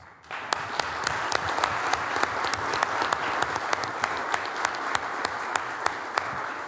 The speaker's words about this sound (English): So while they do deserve a round of applause